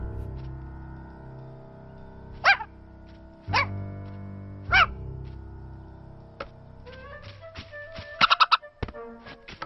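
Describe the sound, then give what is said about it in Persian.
Several sharp dog barks ring out at spaced intervals over a steady background of game music, followed by a quicker cluster of yips and barks near the end. “وای نه، این همه طول سگ اینجاست، طول سگا.”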